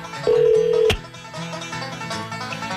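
A loud, steady electronic telephone tone as a phone call is placed on the K104 morning radio show sounds for about half a second and ends in a sharp click, followed by a quieter sustained musical background with no speech.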